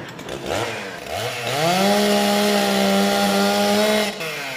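A gadget called a pet woodpecker, likened to an outboard motor, gives a mechanical engine drone that revs upward in pitch, then holds a loud, steady buzzing whine for a few seconds before cutting off abruptly.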